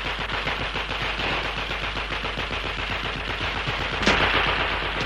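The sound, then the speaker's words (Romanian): Sustained rapid gunfire from a shooter during a standoff with police, a dense rattling stream of shots like machine-gun bursts, loud and continuous throughout, with one sharper louder blast near the end. “Du-te și spune-i să oprească focul.”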